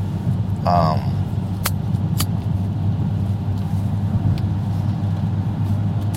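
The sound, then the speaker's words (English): A large truck rumbles with a steady, heavy low engine drone throughout, punctuated by a few sharp clicks and a brief squeal near the start. “Come on, get that damn truck over there.”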